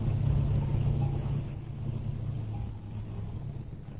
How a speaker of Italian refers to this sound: Rumore di camion.